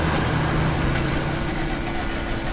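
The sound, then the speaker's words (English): A car engine in a video game idles with a low, even rumble and faint vibration, holding at a constant level throughout with no voices over it. “Oh, this car doesn't work.”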